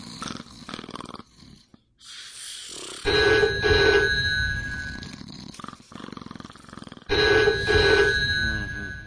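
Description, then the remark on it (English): A loud telephone bell rings in two long bursts separated by a pause, a hotel wake-up call during a stay at Walt Disney World, with a low snoring sound underneath between the rings from someone sleeping. “So anyway, I asked for a wake-up call, I was thinking it'd be nice and fun, and, well, it wasn't.”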